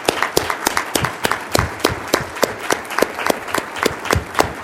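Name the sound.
audience applause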